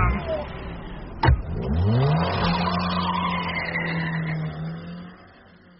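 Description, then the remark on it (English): A car drives off: a sharp thud, then the engine revs up with rising pitch and settles into a steady loud hum that fades out at the end. “Get in the car.”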